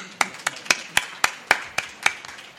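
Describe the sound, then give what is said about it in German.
Applause at a book reading in Leipzig for a friend who travelled from Berlin, in the form of about eight sharp, evenly spaced claps in a steady rhythm, crisp and moderately loud, with no talking over them. “Erstmal herzlichen Applaus.”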